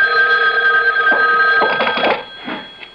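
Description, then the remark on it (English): A telephone rings in a house at night with a bright, steady electronic trill, loud, then cuts off after a few seconds as a brief clatter follows, like the receiver being picked up. “A phone. At this hour?”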